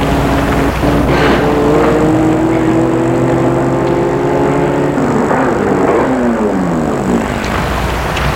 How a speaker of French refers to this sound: Tout à coup, une voiture arrive. Elle est noire.